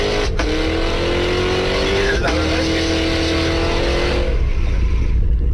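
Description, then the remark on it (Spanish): A powerful 668-horsepower car engine revs loudly, its pitch climbing in steady sweeps with two sharp breaks as gears shift, then fading out after about four seconds over a constant low rumble. “Por ahí, o sea, el motor pesa lo mismo que un Kwid, por ejemplo, casi. Para generar 668 caballos de fuerza, y ese torque es algo que realmente llama poderosamente la atención.”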